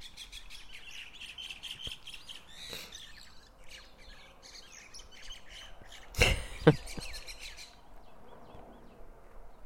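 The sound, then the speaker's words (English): Five mynas chirp and squabble in a busy, overlapping chorus of harsh calls, with one louder sharp squawk burst near the end. “We're having a full-out war over here between the five minas. They're just chirping away.”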